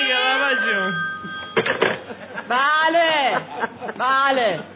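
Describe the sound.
A telephone rings briefly at the start in a Persian-language radio comedy, its steady electronic tone sounding under a voice answering the call, which is from a book publisher; then several people talk loudly and expressively.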